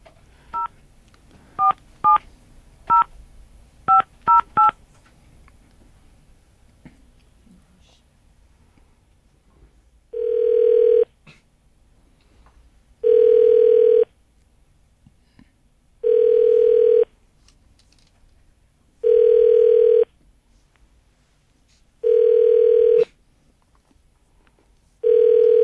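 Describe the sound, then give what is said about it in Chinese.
A quick run of about eight dual-pitched keypad beeps as the next person's number is dialed, then after a pause a steady ringback tone repeats, one long buzz every few seconds, clear. “那就下一位， 再打下一位、嗯、打下一位。”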